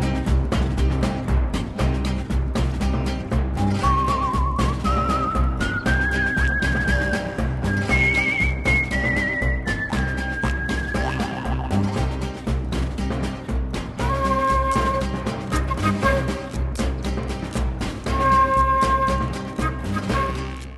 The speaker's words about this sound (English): That's Alexandre Desplat whistling, by the way.